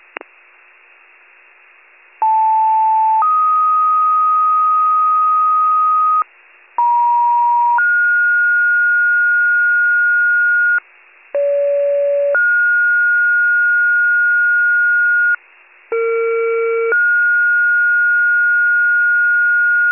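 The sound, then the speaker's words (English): Fire dispatch alert tones over a band-limited Warren County radio channel: four two-tone pages in a row, each a short steady tone stepping up to a longer, higher one, with brief gaps of static between. “39 Rescue, 39 Rescue, you can disregard tones for East Washington Ave at this time.”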